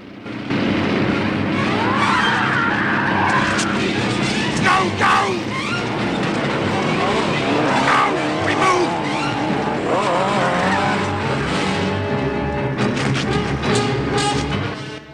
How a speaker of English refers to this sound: Hearing an engine, Wes turns sharply to see Max's truck crest a hill in the near distance.